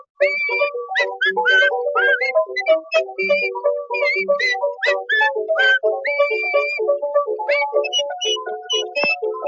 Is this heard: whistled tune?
yes